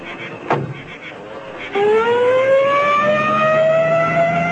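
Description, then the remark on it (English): A door thuds shut, then an ambulance siren starts up loud, its tone climbing steadily in a long rising wail that continues to the end. “All right, now, slide it easy into the ambulance.”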